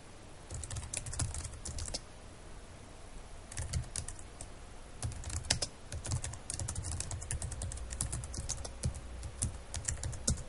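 Rapid bursts of computer keyboard typing, clear, with irregular clusters of clicking keystrokes separated by brief pauses, and no voices, as messages are typed into an evaluator window on a computer desktop.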